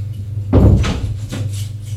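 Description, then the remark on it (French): A woman opens the door of her apartment with a dull thump of the handle and latch, then a couple of lighter clicks and rattles, all over a steady low hum. “Elle ouvre la porte de son appartement.”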